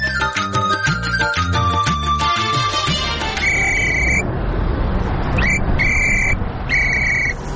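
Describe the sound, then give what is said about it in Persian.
Busy street traffic in Kabul, Afghanistan fills the scene with a steady, loud rumble, overlaid by tonal horn-like blasts early on and then several repeated high-pitched electronic beeps. “شنونده های عزیز، اکنون گزارش زنده‌ای داریم از جاده های شهر کابل که ما یکی از دو جاده شهر کابل که رفتیم و سر زدیم اونجا دیدیم که اشاره های ترافیکی اصلا وجود نداشت.”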